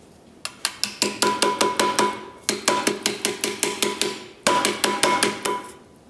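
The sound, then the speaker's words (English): Rapid, steady metallic hammer blows on soft copper cookware, ringing loud in three bursts of strikes with brief pauses between them, no voices. “Now we get to hammer.”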